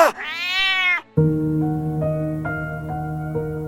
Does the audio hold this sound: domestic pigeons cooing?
no